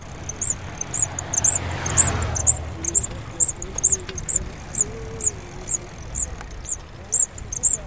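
A small fly chirps in short, high-pitched pulses, repeating at a steady rhythm of roughly two per second over a soft, low background hum, with a brief whoosh early on.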